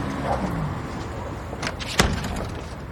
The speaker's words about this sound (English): After a brief standoff, his foot in the door, he retracts it and Liz shuts him out.